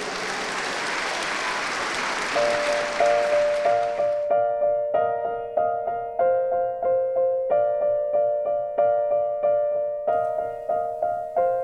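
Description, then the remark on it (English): A crowd applauds a choir steadily for about four seconds, then the clapping fades as a bright piano begins a bouncy, rhythmic introduction of repeated chords. “So a big, big round of applause for ….”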